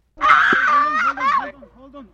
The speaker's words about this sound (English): You can hear his screams there. His backpack got stuck on a chair at Sundance Mountain Resort. He dangled from his shoulders high above the ground.